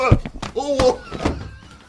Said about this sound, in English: Take that. Oh, knock the microphone.